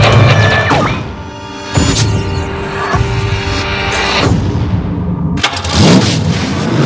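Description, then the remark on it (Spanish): A car engine turns over and catches, then runs loud with a steady mechanical hum, broken by several sharp surges as it revs. No one speaks. “¡Ese es mi coche!”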